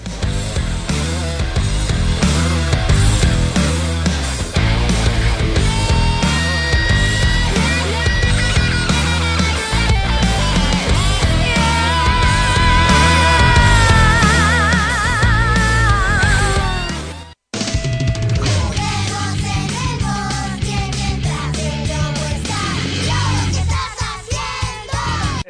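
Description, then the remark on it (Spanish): A loud, full-band music track plays with a steady driving beat and wavering melodic lines over it, breaking off briefly for a split second before the song resumes at the same energy. “Y nos vamos con su musiquita,”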